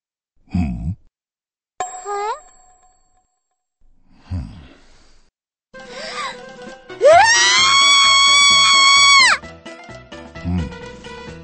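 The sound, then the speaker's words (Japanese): A woman lets out a loud, sustained high-pitched scream lasting a couple of seconds, preceded by a brief startled cry and scattered low thuds, with no talking. “普通の女性ならばこのように叫び出すのが当然だ。”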